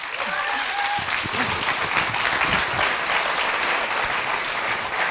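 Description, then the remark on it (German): An audience applauds warmly to welcome a speaker onto the stage, a dense, sustained wash of clapping from many hands, fairly loud and even, with no pauses or talking over it. “ich möchte euch alle herzlich einladen, ihn mit einem ganz warmen Applaus zu begrüßen.”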